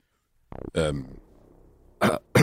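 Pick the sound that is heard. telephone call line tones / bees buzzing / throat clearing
throat clearing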